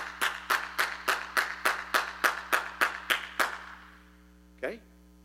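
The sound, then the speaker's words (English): A dozen sharp, forceful hand claps, hands clapped as hard as possible by people standing up, in a steady, quick rhythm, each a crisp slap, followed by a short pause and a brief vocal sound. “Stand up and I want you to clap your hands hard as you can.”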